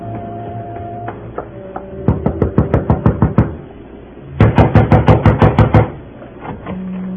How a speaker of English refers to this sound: Gentle knock does it